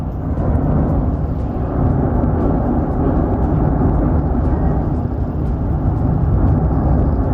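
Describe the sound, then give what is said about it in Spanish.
A volcano's deep, continuous roar rumbles loudly and steadily without pause during an eruption, with increased volcanic tremor: a heavy low-pitched drone with faint crackling texture and no voices. “Lo primero es que ese fluido se ha ensanchado, ya no es solo una pequeña fuente, sino que ha ganado amplitud y sobre todo ha aumentado el tremor volcánico. El rugir por momentos es insoportable.”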